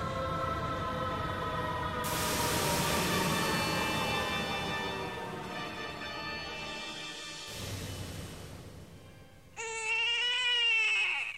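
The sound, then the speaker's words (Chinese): A small, thin newborn baby boy in Sparta cries in thin, wavering wails that rise and fall, with a sharper, stronger burst of crying near the end. No one speaks. “对呀，听他的哭声这么小，我好担心他会通不过考验呢。”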